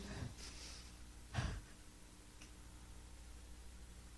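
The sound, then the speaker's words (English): Two short, airy sniffs through the nose, a faint one followed by a stronger one about a second later, over a quiet hiss with no talking. “Let's take another sniff again.”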